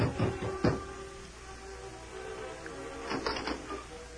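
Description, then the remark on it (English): Soft knocking on a door at the Bar H in the early evening, a few muted raps at the start and another short cluster a few seconds later, quiet and dull, with no one speaking. “It was early evening when Dan Reed knocked softly on the door at the Bar H.”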